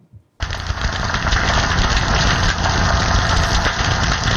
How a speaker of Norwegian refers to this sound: Det høres nesten ut som noe som koker. Liksom. Ja, det gjør det. Steker, nesten. Men det reker. Det der er pistolreka, tusenvis av pistolreka under vann som sitter og lager de her boblene som knuses da